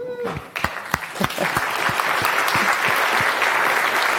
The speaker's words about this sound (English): He's going to be talking about functional programming. Go. Round of applause for him, please.